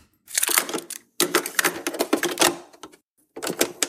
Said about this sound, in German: Machen wir die Kassette rein.